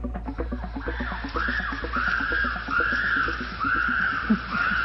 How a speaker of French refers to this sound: Ce qui est assez incroyable chez les chimpanzés, c'est que quand on les entend crier comme ça, on a l'impression qu'ils sont violents.